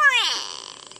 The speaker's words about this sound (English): Favoring open woodlands and thorn savanna, gray go-away birds are known for their loud and nasal "no-wee" calls, often alerting other birds that there's a photographer nearby.